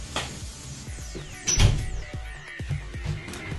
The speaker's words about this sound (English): Apologies if you just heard that, I had to close the door because it was creaking open.